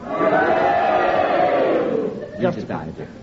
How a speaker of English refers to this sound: No, you have challenged my decision, so therefore, ladies and gentlemen, if you agree with Prunella's challenge, would you cheer? And if you disagree, would you boo? And you all do it together now.